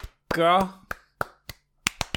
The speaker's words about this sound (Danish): Jeg prøver at klappe på en måde, hvor jeg ikke klipper lyden. Jeg tror, det lyder lidt vattet.